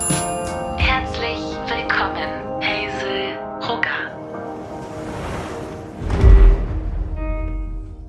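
Sustained chime-like tones ring over a soft busy background, then a broad whooshing rush with a low rumble as an elevator door slides open around six seconds in.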